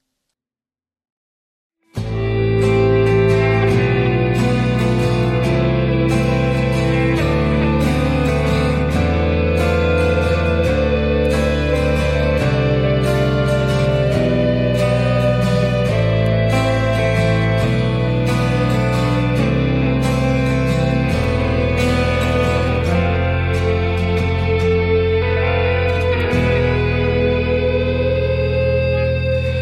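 After a brief silence, a cabaret-style song played from a CD bursts in loudly with full instrumentation, a steady rhythmic pulse and rich sustained harmonies. It stays instrumental throughout, with no singing yet.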